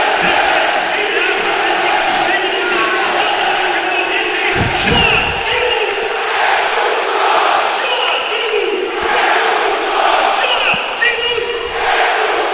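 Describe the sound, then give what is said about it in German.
A dense stadium crowd of football fans roars and cheers steadily for the whole stretch after Arminia Bielefeld go 1:0 up against Köln, a loud, continuous wash of voices with occasional sharper shouts and a few low thumps rising out of the din. “Und natürlich sind jetzt auch die Fans da.”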